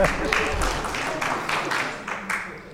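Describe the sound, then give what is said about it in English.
A round of applause the audience gives themselves for getting up on Remembrance Sunday, heard as a steady run of evenly spaced, sharp claps at moderate loudness, with a soft murmur underneath and no clear speech. “Give yourself a round of applause for getting up.”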